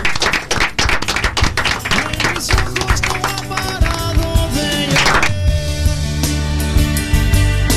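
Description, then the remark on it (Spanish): A burst of applause, dense rapid clapping for about five seconds with music playing underneath, then the clapping gives way to the music alone. “Muchas gracias y con un aplauso terminamos.”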